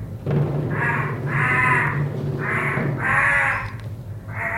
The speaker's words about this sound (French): Au-dessus de tout cela, dans le ciel, un vol perpétuel de corbeaux et d'oiseaux de proie.